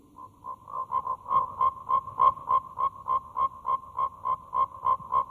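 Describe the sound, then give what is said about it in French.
Frogs croaking in a steady, rapid rhythm, with about four pulsed calls per second repeating without pause. Fairly loud over a faint low background rumble, with no voices. “Débarrassez-nous de ces grenouilles, Jeannès.”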